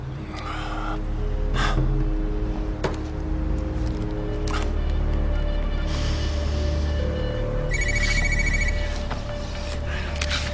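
A telephone rings in a noisy, rumbling space, its bright trilling bursts repeating near the end over a steady low engine-like hum, with faint background sounds throughout.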